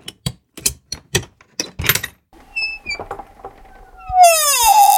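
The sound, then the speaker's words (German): A very old wooden chest, of the kind used to store linen, clothing and valuables, is opened: a string of sharp clicks and knocks from the latch, then a long, squealing hinge creak that bends up and down in pitch as the lid lifts. “Sollen wir es wagen, sie zu öffnen?”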